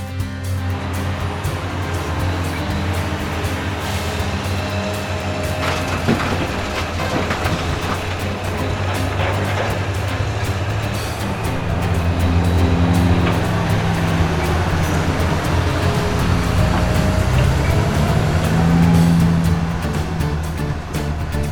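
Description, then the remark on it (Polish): A bulldozer's diesel engine runs steadily for the whole stretch as it pushes gravel, a deep continuous rumble with a slight rise in pitch and loudness midway, plus scattered clanks. No one speaks. “Świetna robota, spychaczu.”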